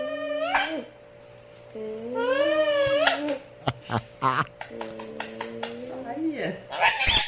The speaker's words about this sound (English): But the parrot is now imitating the smooch noise that like a mom would make when she kisses you. You know, like, mwah. Yeah. Don't trust a bird that does this.